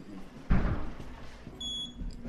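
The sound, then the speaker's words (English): Automatic security doors into a high-security specimen collections store open with a sudden whoosh and low thump, followed by a steady high electronic tone as the mechanism runs; nobody speaks. “Past two automatic doors, and as you notice in here, it's actually a bit cooler.”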